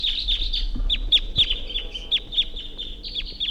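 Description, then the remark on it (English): A wild bird calls repeatedly from a tree at 7:23 a.m., a series of bright, high-pitched chirps and short downward-sweeping notes in an uneven rhythm over a steady low background rumble. “Wild bird up in the tree.”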